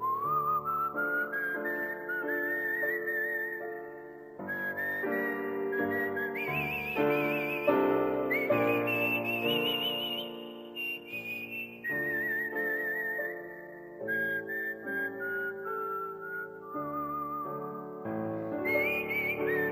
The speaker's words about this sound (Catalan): Però jo prescindia, tu. Seguia xiulant i vinga a xiular.